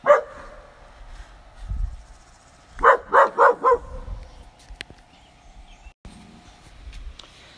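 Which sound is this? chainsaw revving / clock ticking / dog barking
dog barking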